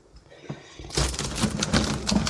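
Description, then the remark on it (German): A sliding door in a house is pulled along its track, giving a continuous rattling slide with several sharp clicks through it, starting after a brief quiet moment. “Wie hört diese Klick-Klick. Hier überall hat der Vorbesitzer überall so Ziehtüren reingemacht und das, nee, möchte ich dann doch nicht.”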